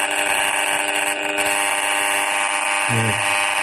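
An RF meter gives a steady electronic buzz with dense harmonic bands, loud and continuous, as a cordless phone is turned on and held very close to its aerial, reading well over 20,000 microwatts, with a brief lower tonal shift near the end; no one speaks.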